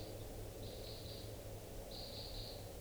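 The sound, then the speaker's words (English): Two faint bursts of high crossbill flight calls from birds that have just started flying, quick runs of thin notes against a steady low background hum, with no voices. “recording more birds just started flying. And I'm not sure if one's a type 2 and the other a type 5.”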